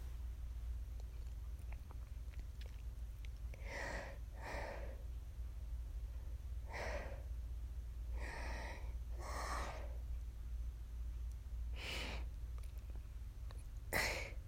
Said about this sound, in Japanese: めっちゃ息切れ。